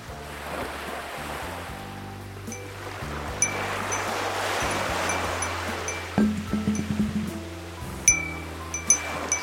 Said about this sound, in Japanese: 僕地元が海やから波の音かな。 海の波の音。